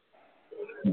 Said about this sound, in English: That's a dog.